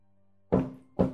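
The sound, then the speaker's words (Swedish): Two gentle knocks on a hard surface, about half a second apart, fairly soft, each with a brief resonant ring over a faint low hum. “Jag knackar försiktigt på det här.”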